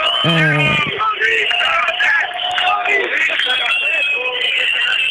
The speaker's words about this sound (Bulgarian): Група от полицайите се отстегля, затова са тези ръкопляскания тук. Да, ръкоплясканията.